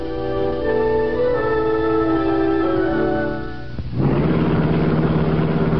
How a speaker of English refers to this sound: The sleek black car of the Green Hornet slid through the darkened back streets of the city like a purring shadow. It was after midnight, and behind the wheel, the Green Hornet himself expertly maneuvered the long, gleaming car.